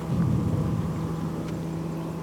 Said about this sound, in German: In der Entfernung ist Donner zu hören, der aus den Bergketten hinter KK Park zu uns rüberrollt.